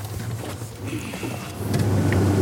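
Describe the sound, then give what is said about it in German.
A boat motor starts and runs with a steady, low droning rumble, its hum swelling louder toward the end over a wash of background noise, on a fishing trip. “So, machst du den Motor?”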